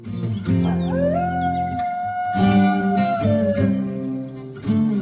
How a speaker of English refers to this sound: A baying wolf.